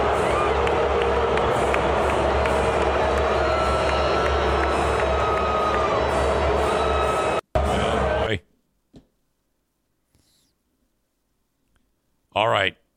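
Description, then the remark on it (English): A large crowd roars with loud, sustained booing aimed at Taylor Swift for several seconds, then cuts off abruptly into near silence, broken only by a brief voice near the end. “When Taylor Swift is getting booed so hard by the American people that she turns into a meme.”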